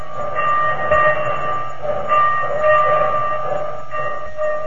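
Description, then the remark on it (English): A steam train sound effect in a radio commercial for the new Anti-Sneeze Rinso: a train rumbles steadily with a low chugging undertone, while sustained whistle-like tones at several pitches swell and fade in repeated pulses. No voices are heard. “All aboard for easier wash days, whiter washes. You're on the right track when you use the new Anti-Sneeze Rinso.”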